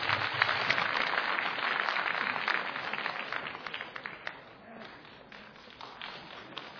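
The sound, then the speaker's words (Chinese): An audience applauds for nearly seven seconds, a dense, steady patter of many hands clapping together that eases off slightly toward the end, with no voices standing out, welcoming two performers onstage for a traditional Chinese crosstalk (xiangsheng) piece, 'Selling Spring Couplets' (Mai Chunlian). “好， 来，掌声有请， 谢谢大家。”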